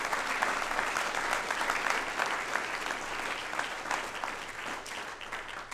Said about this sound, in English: If you want to do that, would you clap your hands under the light?